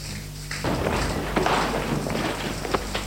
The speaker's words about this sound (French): La porte s'est ouverte d'un bond.